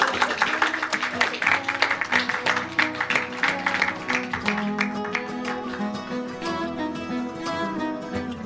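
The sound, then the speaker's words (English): An audience at a PaizoCon 2017 seminar breaks into applause for two women, many hands clapping in a dense, crackling burst that is loudest at first, then thins out and fades beneath a steady tonal sound. “I would really recommend a round of applause for all the work both these ladies did.”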